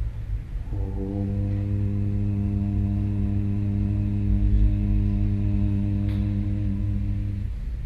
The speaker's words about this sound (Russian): То есть можно произносить мантру ОМ, делая акцент на гудение М.